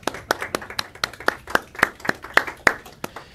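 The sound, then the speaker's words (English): Hands clap in a steady, even rhythm, roughly four sharp claps per second, sustained for a few seconds as a round of applause for the Blessed Mother (un aplauso para la Virgen) after a Hail Mary prayer, with no voices. “In Mexico and Guadalupe, then they say un aplauso para la Virgen, which means a round of applause for the Blessed Mother.”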